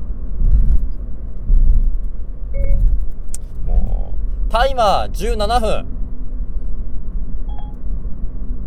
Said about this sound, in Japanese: 僕はですね、実は車のこの運転席の目の前にマイクを設定してて、電話がかかってきてもうまくいくようにやってるんですけれども